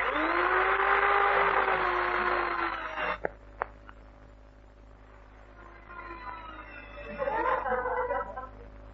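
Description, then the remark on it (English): An electric drill whines loudly for about three seconds, its motor pitch sagging as it bites into the wall, then stops with a couple of clicks before a shorter, softer burst of drilling follows. “Now, I think I'll drill just about there.”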